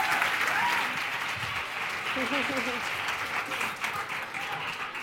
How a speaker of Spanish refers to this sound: Un fuerte aplauso